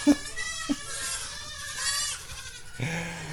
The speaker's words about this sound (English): But these goats don't seem to think it's too hot. I don't know where these goats are getting this energy to run around like crazy little goats.